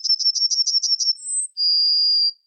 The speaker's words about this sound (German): Das war die Goldammer. Das war die Goldammer.